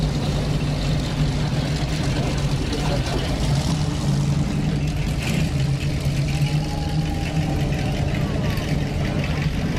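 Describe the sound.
The V8 engine of a 1968 Mustang convertible idles with a steady, deep, continuous rumble, and faint voices murmur in the background.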